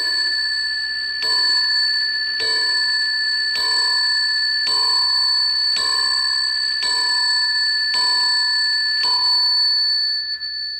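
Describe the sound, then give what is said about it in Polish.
An original, richly decorated Louis-style bronze mantel clock's single bell strikes about nine times at a steady, unhurried pace, each clear metallic ding ringing on and overlapping the next. Fairly loud, with no talking. “To jest oryginalny Ludwik w brązie, kominkowy, bardzo bogaty, prawda, ale też pojedyncze ma bicie dzwonkowe.”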